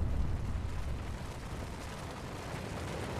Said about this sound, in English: Or, if necessary, they'll use a helicopter and drop the explosives from that. And that'll trigger the avalanche. Boom! Off it goes.